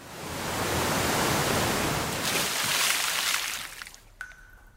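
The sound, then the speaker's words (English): A waterfall's heavy crashing roar swells in quickly, pours down steadily for several seconds, then drops away abruptly near the end, as a raft goes over the waterfall and water falls on top of the people at the bottom. There is no talking. “When they arrive at the bottom, water from the waterfall falls on top of them.”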